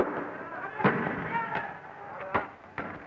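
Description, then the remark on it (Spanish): Police tear gas launcher shots ring out during the Cordobazo, a handful of sharp, hollow bangs at irregular intervals, moderately loud, over a murky background of shouting voices and crowd noise as bottles are thrown. “Se escuchan disparos de gases lacrimógenos.”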